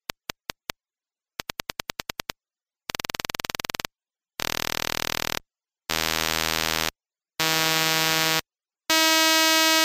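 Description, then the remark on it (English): A series of click trains, each faster than the last: a few separate clicks, then quicker bursts, then a rapid rattle that blurs into a steady buzz rising in pitch with each step. Around the fourth train, at 40 clicks per second, the sound is between separate taps and a continuous buzz. No one speaks. “at the fastest rate, you just hear a buzzing sound with a high pitch”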